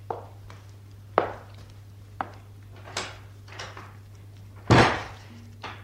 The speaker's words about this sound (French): Je vais entrebâiller la porte. Il y a juste assez de place pour moi.